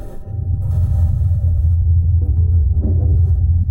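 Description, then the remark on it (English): A steady, heavy mechanical rumble dominated by deep low tones as the Mars rover drives past on the surface of Mars, with grinding textures and a faint high hiss layered over it; no voices. “Then the serene sounds are interrupted by the rover driving past.”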